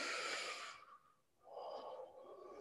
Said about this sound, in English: I invite you to bring your spirit in whatever way it comes this morning into the presence of God. And we'll do that by just breathing in together. And then breathing out.